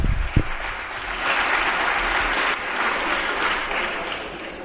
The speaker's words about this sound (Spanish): ¡Qué júbilo! ¡Qué júbilo, señorías del Partido Popular! ¿Sabe a qué suenan esos aplausos? A la música de la orquesta del Titanic cuando se hunde.